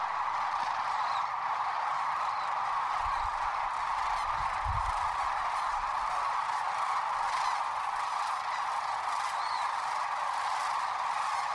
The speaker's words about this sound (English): Y'all, I got to tell you, there's nothing like the sound of nearly 500,000 large birds taking flight at once. It's a deeply moving experience, to say the least.